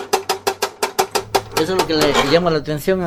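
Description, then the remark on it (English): A handmade, soldered sheet metal toy airplane by Ramirez. Its moving parts give off a rapid, steady run of sharp metallic clicks, then give way to a wavering, warbling tone that rises and falls over the last part. “All of his creations, which can be up to 2 feet long, have moving parts and some make sounds, like this airplane.”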